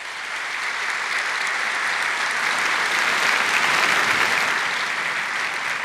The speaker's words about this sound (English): Okay, audience, clap if you plan to caucus.